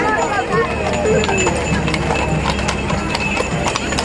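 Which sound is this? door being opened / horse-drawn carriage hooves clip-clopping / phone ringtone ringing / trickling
horse-drawn carriage hooves clip-clopping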